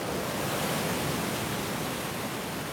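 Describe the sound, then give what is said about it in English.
A steady, dense hiss of sea surf and frothing foam with popping bubbles washes on without pause, even in loudness, like water fizzing in the shallows. No voices are present. “Bubbles foam and sigh in the ripples, hissing, popping, gone.”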